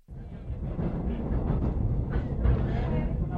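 A train running on rails, heading to the Encuentro: a steady low rumble with rattling and clatter that holds at an even level for a few seconds.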